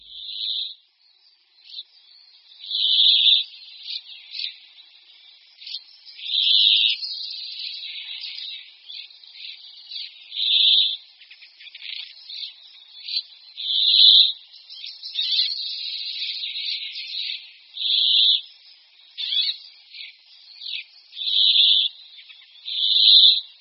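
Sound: brambling song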